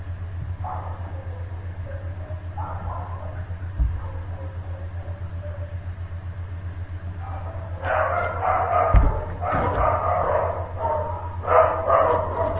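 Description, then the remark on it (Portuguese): Dogs bark in repeated bursts over a steady low hum, quieter yelps early on building to louder, clustered barking in the second half. These are the speaker's own dogs, one of them named Lonita. “Eu vou anunciando o próximo tema, se os meus cachorros deixarem eu falar.”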